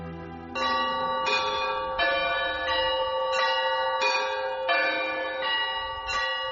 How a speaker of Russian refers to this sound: Колокольным звоном встречал Покровский храм села Верхний Ломов владыку митрополита в день памяти преподобного Алексия, человека Божия.